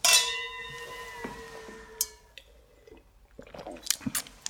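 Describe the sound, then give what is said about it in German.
Two glasses tap together in a toast, a bright clink whose clear ringing tone fades over a couple of seconds, followed by soft clicks and quiet sipping sounds. “Dann lass uns doch erstmal anstoßen, bevor wir zum ersten Buch kommen.”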